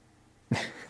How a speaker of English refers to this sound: So sorry, Frankie's making some noise, which is my dog, because I think he's feeling a little sick. And so he's pacing and he can't get comfy.